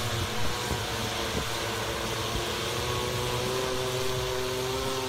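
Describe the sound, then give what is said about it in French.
Loud, steady mechanical roar of a flying car's engines as it takes off, a broad rushing whir with a droning hum underneath and a tone that slowly rises toward the end, with no one talking. “Eh, tabarnouche, c'est noisy en tabarn... Ça, là... Excusez-moi, là, mais les voitures volantes, là...”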